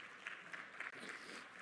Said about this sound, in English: Wonderful worship. Let's give our Lord our applause.